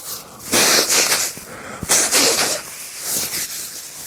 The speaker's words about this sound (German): wenn ich mir Nasenspray in die Nasenlöcher puste und mich schneuze und huste und solche Dinge mache und Krusch und Kram. Aber das lasse ich jetzt einfach mal drin.